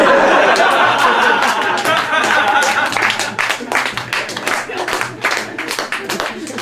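A crowd applauds, with a dense wash of clapping mixed with chuckles and murmuring, then breaking into more scattered, individual claps and laughter toward the end.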